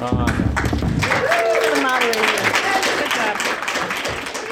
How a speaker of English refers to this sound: Clap for the moderator.